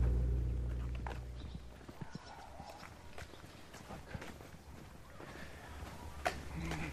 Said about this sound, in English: And now in my way, blocking my path, is a pack of wild horses just happily grazing away.